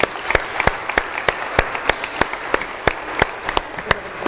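A crowd at a church service applauds a family steadily, a dense wash of many hands clapping with a few sharper, louder claps standing out at an irregular rhythm throughout.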